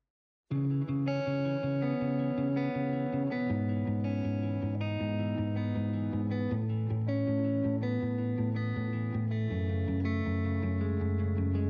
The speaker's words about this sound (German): Und als kleiner Vorgeschmack auf ihren kommenden Auftritt spielen wir jetzt einen ihrer sehr schönen Songs.